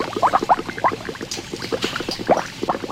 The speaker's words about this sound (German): Bis die Maggi-Würze in den Kesseln blubbert.